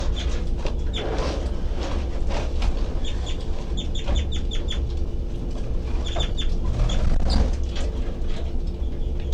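baby birds' high-pitched calls

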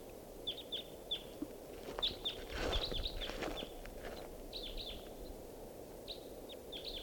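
wild bird call recording

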